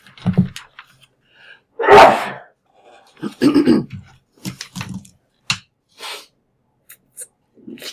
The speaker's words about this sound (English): Bless you. Bless you. Thank you. There'll be a few more to come.